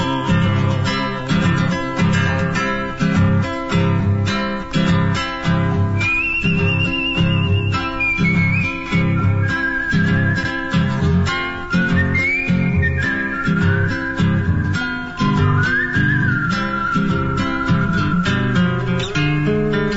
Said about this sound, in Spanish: Un silbido de sus labios se escapa con cada trueno.